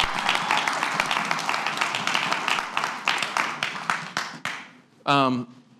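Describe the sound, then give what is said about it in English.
A church audience applauds to welcome visiting partners, with dense, scattered clapping that gradually thins out and fades, followed by a brief voice at the end. “You can clap.”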